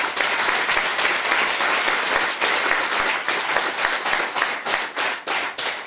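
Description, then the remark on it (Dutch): A crowd bursts into thunderous applause, a dense, steady wash of many hands clapping loudly for the full six seconds, with sharper individual claps flickering through toward the end. “En ik hoop dat u dat wilt ondersteunen met een daverend applaus”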